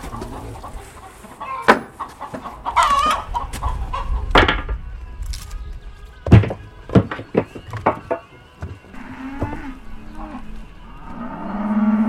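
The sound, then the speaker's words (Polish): Chickens cluck in short, scattered bursts around a farmyard, mixed with low cow moos toward the end and a steady background of livestock noise. “Sąsiad ma kury, ja mam mleko.”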